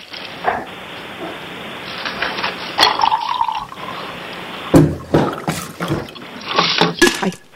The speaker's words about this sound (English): Go ahead and refill the water there.